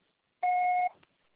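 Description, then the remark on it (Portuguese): A Portuguese-language answering machine's record signal: a single steady electronic beep, about half a second long, with a clear mid-high tone and a fainter overtone, cutting off abruptly into quiet. “Seu acessório será tarifado após o sinal.”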